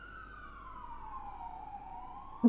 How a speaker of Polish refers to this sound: Odezwały się, nie wiem, czy Państwo słyszą, ale były syreny jakieś tutaj.